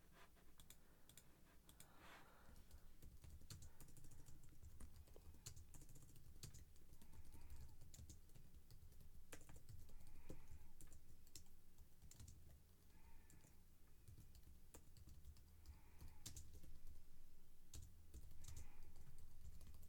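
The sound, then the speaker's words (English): Steady typing on a computer keyboard, quick irregular key clicks over a low background hum, with occasional louder keystrokes scattered throughout. “Typing, coffee drinking.”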